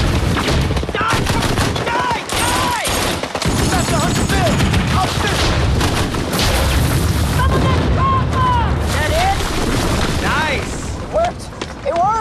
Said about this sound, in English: They blast the building with relentless artillery fire.